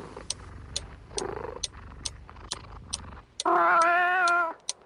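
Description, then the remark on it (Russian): A cat named Marta purrs softly against a steady ticking clock, then lets out a single loud, drawn-out meow, lasting over a second before fading. “Тогда назвал Мартой кошку.”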